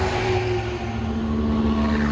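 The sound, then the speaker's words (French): Heavy vehicle engines roar steadily as military vehicles and artillery guns speed along the road toward Tartus, Syria, a continuous low rumble with a sustained droning whine, fairly loud and without any talking. “Sur la route en direction de Tartous, les véhicules militaires et les canons d'artillerie filent à toute allure.”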